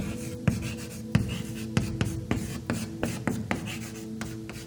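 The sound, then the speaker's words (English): Chalk taps and scrapes against a board in short, irregular strokes, a dozen or so sharp clicks and scratches over a steady low hum, with no one speaking. “I invite you to come and take a piece of chalk. And then you can come to the board”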